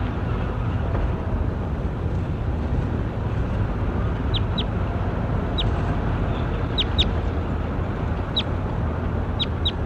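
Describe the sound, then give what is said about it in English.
A bird, Bird J9, being recorded, gives about seven short, sharp, high-pitched chirps, some in quick pairs, spaced irregularly over the second half, above a constant loud low rumbling noise. No one speaks. “Bird J9.”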